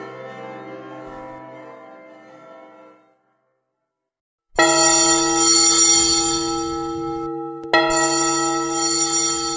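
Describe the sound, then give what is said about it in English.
A ringing bell fades away into a brief silence, then loud, harsh alarm bells crash in and clang continuously, with a second jarring strike renewing the din near the end. “Hear the loud alarum bells, brazen bells.”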